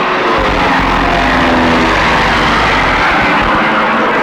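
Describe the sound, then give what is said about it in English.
A small propeller plane drones steadily overhead, its loud engine roar filling the air and holding fairly constant throughout, with a low rumble underneath and no voices. “Got a man, grandboy's got a plane.”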